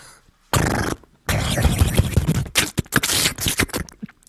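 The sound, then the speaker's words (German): A voice imitates the windy slapping noise against the underside of a scooter seat caused by the headwind while riding: a short breathy gust, a brief pause, then a longer rough, fluttering hiss broken into rapid, irregular pulses, fairly loud throughout. “Es ist ein windiges Klatschgeräusch.”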